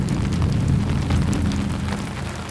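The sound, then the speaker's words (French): A bass drum is tapped softly and continuously, blending into a steady, deep booming rumble that imitates rolling thunder, holding an even loudness throughout with no voices. “Et Harold se joint à elle en tapant doucement sur la grosse caisse. Tous les deux sont en charge de l'orage de Madame Fleury.”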